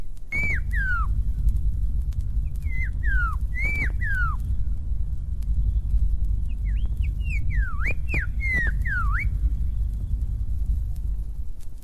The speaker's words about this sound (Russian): Иволга тоже передает наилучшие пожелания своей африканской сестре. Слушайте, как отвечает черноголовая Иволга из Африки.